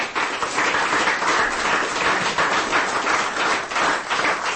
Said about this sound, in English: Y'all need to give yourselves a round of applause right now. Thank you.